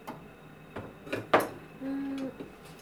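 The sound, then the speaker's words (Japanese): Several metallic clanks and knocks as cooking pots of different sizes are swapped in position, with a brief scraping and a faint ringing tone from one pot, fairly soft overall, no voices. “やっぱり場所入れ替えよう。よいしょ。鍋の大きさがね。”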